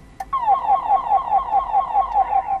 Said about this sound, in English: Most people use those as you call a Roger beep, which is an end of transmission sound. What's it called? Roger beep, which is, they say, an end of transmission sound.